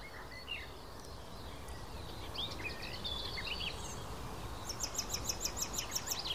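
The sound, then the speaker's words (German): A blackbird's alarm call as it flies up: scattered chirps give way to a rapid, evenly spaced run of sharp, high chinks over a steady outdoor hiss. “Das klang auf wie eine aufliegende Amsel so ein bisschen.”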